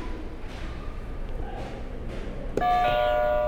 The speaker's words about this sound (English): Go ahead and hit a buzzer for me.